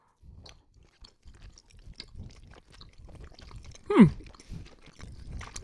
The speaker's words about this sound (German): Ihr müsst da schon mal herzhaft reinbeißen.